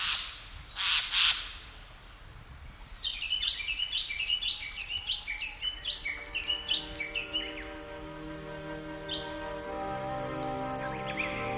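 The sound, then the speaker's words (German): Harsh bird squawks open the scene, followed by a busy chorus of overlapping chirps and calls with sustained whistling tones, moderately loud, with no voices. “Anbei die Vögel, die nicht nach Süden ziehen.”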